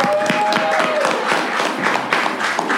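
A crowd applauds steadily to welcome a guest introduced on a show as the CEO of Piñas Espinosa. Many hands clap in a dense, even wash of sound, with a faint high tone sliding briefly at the start.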